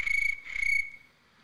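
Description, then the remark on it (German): A voice imitates a cricket with two short, shrill, buzzing chirps in quick succession, fairly loud, followed by a moment of quiet. No one speaks. “Oder halt eine normale Grille ging auch.”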